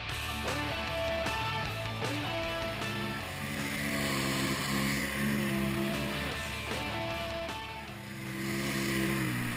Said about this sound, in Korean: 전 여기 오면 늘 제트스키를 타는데요. 바다 위를 시원하게 달리면 정말 기분 좋죠.